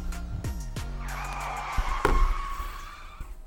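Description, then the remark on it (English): A car brakes sound effect: brakes screech in a long, high squeal that holds for a couple of seconds, preceded by a few low thumps and punctuated by a sharp knock partway through. “They What's hit that? The brakes. Hit the brakes”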